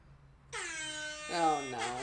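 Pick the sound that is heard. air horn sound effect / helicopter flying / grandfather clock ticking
air horn sound effect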